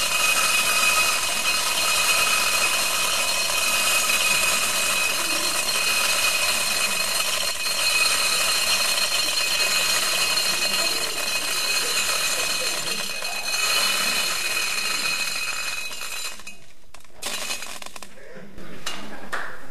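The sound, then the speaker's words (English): A steady stream of about 10,000 BBs pours into a metal container, a dense, bright, hissing rattle that runs for about sixteen seconds before thinning into a few last scattered clinks. “And now I'm going to pour in the amount of BBs that represents our total nuclear arsenal.”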